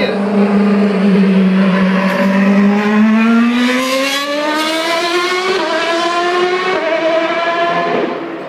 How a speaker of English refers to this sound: Yeah, because you can hear the Formula One cars for at least 10 kilometers, depending on the wind.